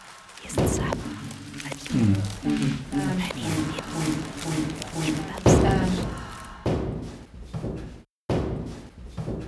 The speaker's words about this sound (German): Und dann Schritte auf Holzboden.